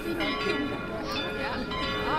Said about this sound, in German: Und mit dem Schlag von Basel Martins Glöckli ist 11 vor 6 geworden. Ihren richtig grossen Einsatz hat die Glocke von der Martinskirche dann in 1,5 Wochen, wenn sie dann als Messglöckli wieder die Messe einläutet.